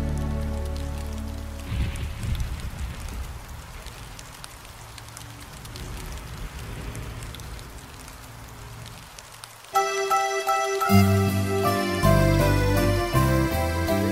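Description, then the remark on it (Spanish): Steady rain patters on a hard surface for several seconds, a dense, even hiss of drops, before bright instrumental music abruptly takes over near the end. “Cuando llueve no hay permiso para salir a pasear. A través de mi ventana con la lluvia amiga me pongo a jugar.”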